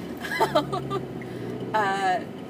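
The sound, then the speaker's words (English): A voice records an audio response inside a car, with a steady low road and engine rumble droning underneath throughout. “And you happen to be listening to this audio response that I'm recording in my car.”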